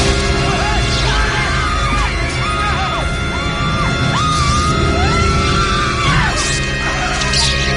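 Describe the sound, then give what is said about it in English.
A chaotic film scene in which a squirrel jumps out of a tree: frantic screams, squirrel noises and shrill yelps ring out over loud, busy music and clattering commotion, with no spoken words, sustained and loud throughout. “There's a lot of screaming, squirrel noises, music, that kind of thing.”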